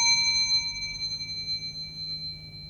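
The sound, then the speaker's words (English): A thicker metal hard drive platter from an older 320 gigabyte Maxtor IDE drive is struck once and rings like a bell in B flat, a clear sustained pure tone with bright, high overtones that fades slowly over a few seconds, with no talking. “Now I need to go in here, because on the back of this door, on a hook, which I've now taken off, is a thicker platter, which rings in B flat.”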